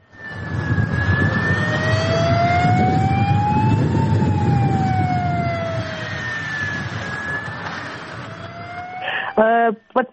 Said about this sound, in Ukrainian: Начались учения с работы системы оповещения, и в городе раздались звуки сирены.